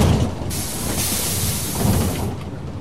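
Loud, steady rumble of a rickety yellow marshrutka shared minibus in motion in Kyiv, Ukraine, with deep engine drone and broad rushing road hiss that swells slightly in places; no voices are heard.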